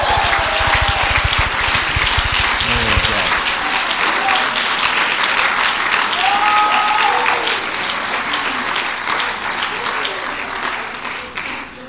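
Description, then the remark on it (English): Loud, sustained applause from a large crowd clapping their hands in praise fills the space, a dense wash of clapping with faint whoops and voices mixed in, holding steady before tapering slightly at the end. “Clap your hands and give him the praise.”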